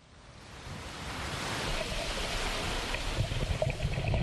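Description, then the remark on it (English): Ocean waves break on the shore off Dakar in a steady, broad rush that swells louder over the first couple of seconds, with a few faint splashes and some wind noise near the end, on a sunny Saturday as surfers and scuba divers wade in to collect garbage. “A group of surfers and members of the Barracuda Scuba Diving Club wade into the ocean waters off Dakar.”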